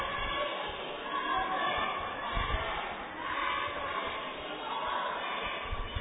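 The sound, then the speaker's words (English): A steady, dense murmur of a large arena crowd filling the seats at a Knox County game, many overlapping voices blending into a continuous wash of chatter with no single voice standing out, holding at an even level throughout. “Crowd is starting to fill up here.”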